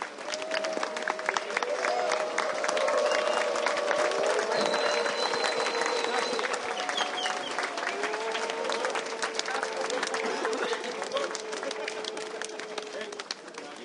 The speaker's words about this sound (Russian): И, ну что, друзья, и поблагодарим от сердца, друг друга аплодисментами. Замечательная работа. Заслуженные овации! Ну реально, действительно, вы хорошо поработали. Громче аплодисменты!